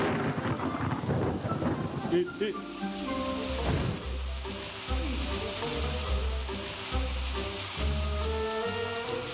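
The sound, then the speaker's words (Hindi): Heavy rain pours down in a dense, steady hiss, with deep rumbles of thunder rolling underneath throughout, loud. “अरे आज तो बहुत तेज बारिश है।”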